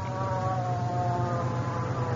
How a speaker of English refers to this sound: Here comes the ambulance.